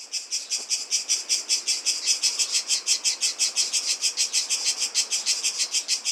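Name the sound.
cicadas chirping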